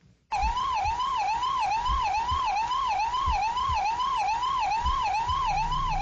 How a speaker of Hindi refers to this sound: ये आवाज 108 इमरजेंसी सेवा की एम्बुलेंस की है। किसी इमरजेंसी का संदेश मिलते ही एम्बुलेंस घटना स्थल के लिए रवाना हो चुकी है, लेकिन जरूरी नहीं है कि उसे घटना स्थल पर कुछ मिले।